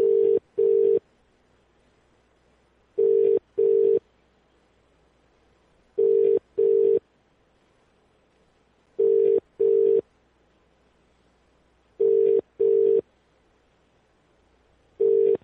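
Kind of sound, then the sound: signal or alarm, telephone call ringing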